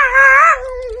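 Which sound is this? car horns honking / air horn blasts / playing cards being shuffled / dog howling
dog howling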